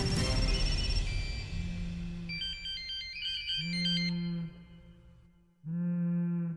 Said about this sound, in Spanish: sobre todo el sonido de los móviles, eso es algo que se me quedó bastante clavado, porque oías muchos teléfonos móviles sonar y luego las voces gritando, decir, no se toca ningún teléfono, no se coge ningún teléfono y se dejan sonar los teléfonos.